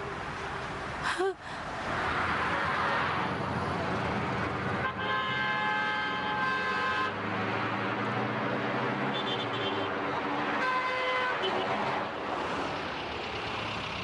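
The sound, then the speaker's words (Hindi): Busy road traffic with a steady rumble, punctuated by several car horns honking in bursts, one long blare in the middle and shorter toots near the end, fairly loud, heard from a car stopped in the middle of the road. “हम लोग रोड के बीच में खड़े हैं, गाड़ी साइड में लो।”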